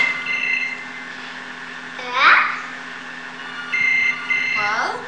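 telephone ringing

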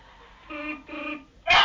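sneeze

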